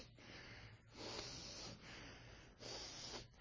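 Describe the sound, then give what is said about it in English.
A person imitates angry snorting, showing how someone breathes when angry. Breath is forced hard through the nostrils in a few long, harsh, hissy bursts in a steady rhythm, fairly loud, with no talking. “So you know when somebody gets angry, what do? They go...”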